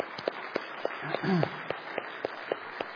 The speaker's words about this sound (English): Everybody give him applause.